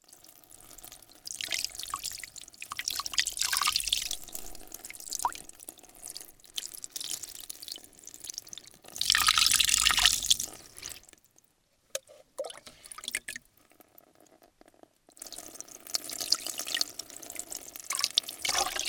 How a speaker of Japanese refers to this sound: では、お湯で軽く汚れを落とします。